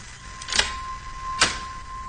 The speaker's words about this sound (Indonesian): Aku dengarkan secara seksama. Kali ini terdengar suara pintu dibuka.